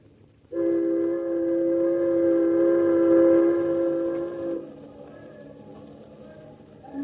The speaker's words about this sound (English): Listen to all the whistles, David. They're practically an orchestra. The little short ones are the tugboats.